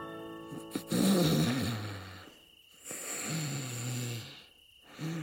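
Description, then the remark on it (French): Loud, rumbling snores repeat in slow cycles, each a long raspy inhale with a pause of quiet between; a third snore begins at the end. Unaccompanied by talk. “ronflait maintenant bruyamment.”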